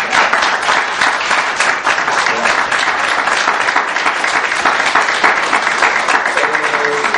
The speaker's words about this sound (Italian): Chiedo scusa, è un consiglio comunale, in genere il consiglio non si applaude. E chiedo scusa, è perché le clac sarebbe bene lasciarle a casa, qua siamo per riflettere, non per fare il tifo per uno o per l'altra parte.